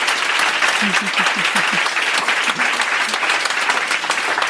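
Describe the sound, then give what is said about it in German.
Steady audience applause after a presentation on social recruiting fills the whole stretch, a dense wash of clapping at even loudness, with a few brief low vocal sounds poking through early on. “Erstmal euer Applaus.”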